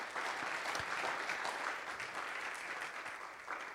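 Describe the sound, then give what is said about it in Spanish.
An audience applauds God steadily, a dense wash of many hands clapping at an even loudness for several seconds with no break and no talking. “¿Por qué no le regalo un fuerte aplauso a Dios?”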